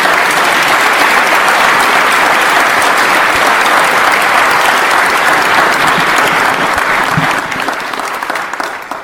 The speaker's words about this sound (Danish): Og jeg synes, de hver og en fortjener at blive hyldet, så jeg håber, I vil være med til at give dem en kæmpe klapsalve herude i foyeren og fejre den indsats, de har gjort for os alle sammen.